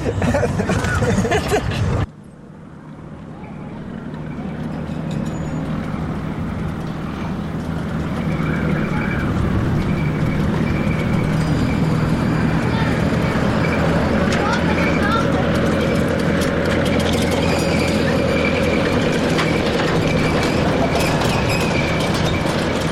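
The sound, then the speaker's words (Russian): Steady, loud roar of road traffic, with the heavy rumble of cars and trucks, including a Land Rover, a Mercedes and a Nissan, rolling past continuously after a brief cut at the start, and voices faintly audible underneath. “Лэндровер. Мерседес.”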